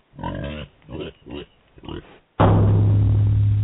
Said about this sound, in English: So, to all prospective suicide bombers, ISIS, and innocent good Muslims, I say, have a nice day from Percy, the wonderful pig.